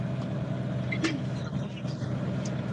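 A loud, steady truck engine rumbles with a constant low drone, and a brief hissing burst cuts through about a second in.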